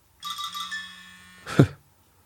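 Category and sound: signal or alarm, mobile phone ringing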